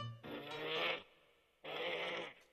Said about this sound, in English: Funny sound for a sheep to make. Hey, it's not the sheep making that sound. It's that leopard over there. Oh, I'm so foolish. I thought it was the sheep making the sound.